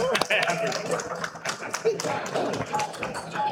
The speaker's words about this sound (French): On l'applaudit. On l'applaudit, on l'accueille avec nous à la table.